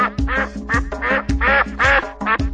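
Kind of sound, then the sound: animal, ducks quacking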